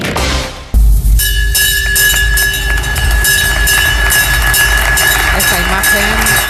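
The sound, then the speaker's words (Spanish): A loud electric bell rings continuously for several seconds at a stock exchange, rung by the former president of Bankia to open the bank's stock market listing. After a brief noisy start, its steady metallic clang sits over a busy background of crowd murmur and voices. “Esta imagen, este sonido, la imagen de Rato tocando la campana en la bolsa”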